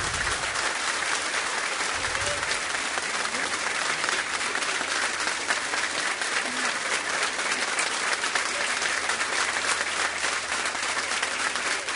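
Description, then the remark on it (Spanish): Loud, sustained applause from an audience fills the whole stretch, a dense, steady wash of many hands clapping at once with no pauses or voices standing out. “Este fuerte aplauso es para ti.”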